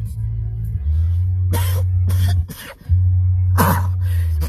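sneeze

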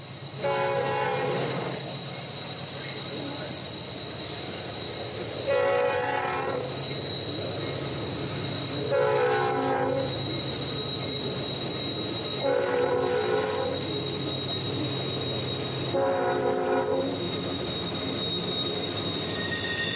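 train approaching and passing

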